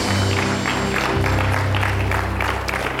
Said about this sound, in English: Let's give the Lord a good clap offering here this beautiful Sunday morning. Amen.